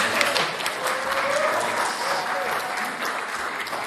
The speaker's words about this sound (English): Do we do a round of applause?